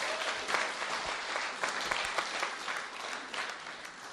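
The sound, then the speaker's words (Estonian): An audience claps steadily for several seconds, a dense, even patter of many hands with no voices standing out, holding a fairly constant level before tapering slightly. “Aga siis tee üks aplaus endale ja oma naabrile sellest, et sul on täiuslik elu.”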